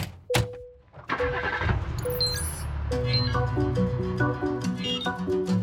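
A sharp click, then a taxi's engine turns over and settles into a steady low rumble as it pulls away, with a bright, bouncy melody playing over it.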